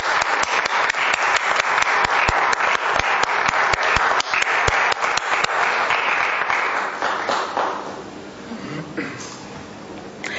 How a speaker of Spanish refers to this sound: Un aplauso.